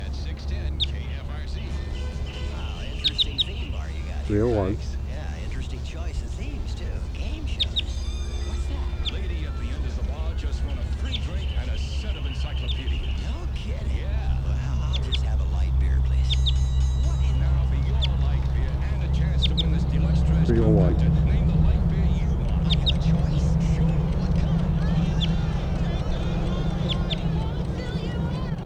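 A wild bird, number 301, about 15 meters away, gives repeated short, high Type 2 calls in scattered bursts, sounding over a steady low rumble like an idling engine.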